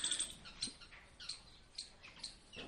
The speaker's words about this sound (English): I don't know if that comes in the recording. Does the parrot's voice come there? That's nice. To be able to watch a YouTube movie in China and hear the parrots in Vrindavan.